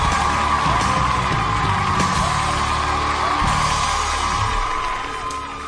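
An audience at a weekly Friday-night show applauds a guest again, steadily, a dense wash of clapping mixed with scattered yells and whoops, holding loud for about five seconds before easing off slightly at the end.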